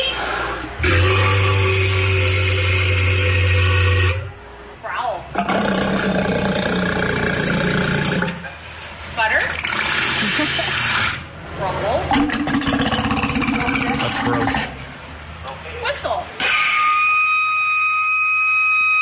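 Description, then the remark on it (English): A walrus named E.T. makes a series of different vocalizations on its trainer's commands, in short bursts with pauses between: loud, rumbling, engine-like growls and buzzy grunts, ending on a high, steady whistle. “The Walrus is making all of these sounds.”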